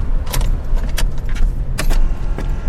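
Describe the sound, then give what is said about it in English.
Three sharp, spaced-out clicks as an electric car starts, over a steady low hum with no engine rumble and no voices. “Just three clicks and her electric car is running.”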